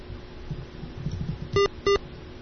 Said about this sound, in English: Hey, we're beeping. Guess what that means.